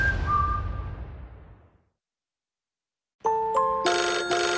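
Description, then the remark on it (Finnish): A phone ringtone for an incoming call starts after a fading wash of noise and a short silence: bright, melodic electronic tones repeating loudly, with no talking. “Ja nyt soittaa”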